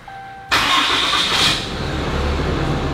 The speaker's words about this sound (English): Once the system is armed, the push to start button is now disabled. Even if you have your factory remote in your hand, the car's not gonna start. Once you disarm using your CompuStar remote, then I can start my vehicle.